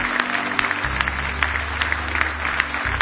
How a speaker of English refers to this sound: Lord, give the Lord a big hand clap of praise if you love him.